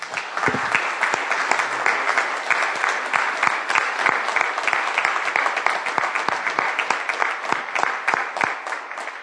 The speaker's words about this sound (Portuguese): Amém? Podemos aplaudir ao Senhor Jesus mais uma vez essa manhã?